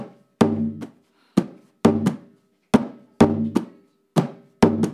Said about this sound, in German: Trommel Nummer zwei ist der Piano. Piano wie Klavier. Das ist die Basstrommel. Sie bildet mit dem Chico den Grundrhythmus des Candombes. Es hört sich ungefähr so an.